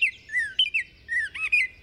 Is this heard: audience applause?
no